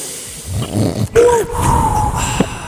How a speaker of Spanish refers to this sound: una respiración profunda antes.